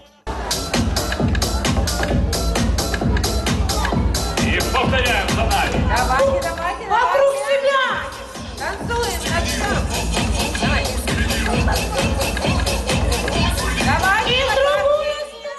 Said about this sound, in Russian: Аплодисменты счастливых детей являлись символом благодарности тем людям, которые принимают в их жизни очень важное участие.